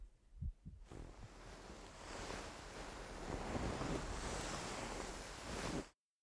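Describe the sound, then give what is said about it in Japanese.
A few soft, low heartbeat thumps of an older brother's heart pulse at the start, then a steady, broad whooshing rush like wind or surf swells up and covers them. No one speaks. “私も兄さんの心臓の音を聞かせてもらっても構いませんか？”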